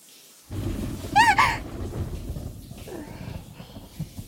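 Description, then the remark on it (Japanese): A close rumble of thunder, getting nearer, rolls in and lingers for several seconds, deep and broad, with a brief higher chirping sound near the start and no talking. “雷近くなってる。”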